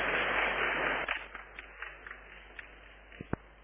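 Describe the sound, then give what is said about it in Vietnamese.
A crowd of Buddhist followers at a dharma assembly in Vietnam claps together in a dense burst of applause that quickly thins out into a few scattered, isolated claps before fading away; it sounds somewhat muffled. “Xin toàn thể đạo tràng chúng ta cho một tràng pháo tay để chúc mừng.”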